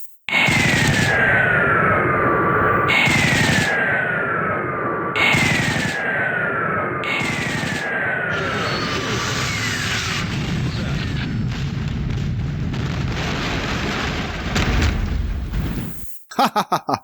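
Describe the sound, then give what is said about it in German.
Video game aircraft gunfire and explosions as a Thunderhawk tears apart Ork hordes in an attack: four sharp bursts, each with a falling whine, give way to a sustained, dense roar of rumbling blasts and crackling fire, ending abruptly with a few sharp pops. “Also habe ich einfach mal aufgenommen, wie so ein Thunderhawk so Orkhorden zerlegt. Das hört sich dann so an.”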